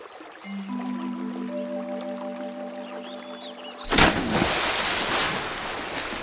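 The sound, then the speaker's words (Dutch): A sustained, layered musical chord holds for a few seconds, then a sudden loud splash cuts it off as Hiawatha falls into the water from his canoe, followed by several seconds of churning, sloshing water. “Plons! Hiawatha valt in het water.”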